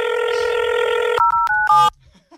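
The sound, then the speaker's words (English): A phone call being placed to leave a voicemail: a steady, loud electronic telephone tone holds for about a second, then three short keypad-style beeps follow in quick succession before the sound drops to near silence. “Please, can we leave him a voicemail?”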